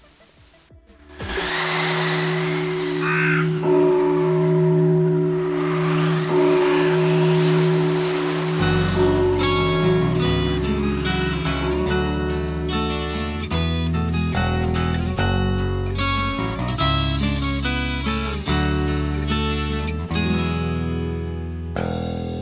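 A recorded song intro: a sustained, droning synth chord with swelling, sweeping tones, then a heavier rhythmic section with deep bass and pulsing chords kicks in. Loud and steady, no voices.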